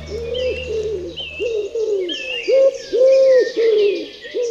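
A dove or pigeon coos repeatedly in a steady series of soft, rounded calls, with fainter chirping birds in the background.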